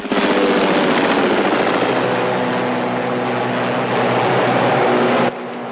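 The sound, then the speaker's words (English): A yellow helicopter ascends over rippling waters at the foot of a mountain range, its rotor beating in a rapid, steady chop over a loud engine whine, sustained throughout before dropping off abruptly near the end. “A yellow helicopter ascends over rippling waters at the foot of the Misty Mountain Range.”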